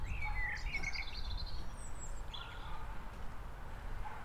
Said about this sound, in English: So, there you go folks, lovely blackbird in the park.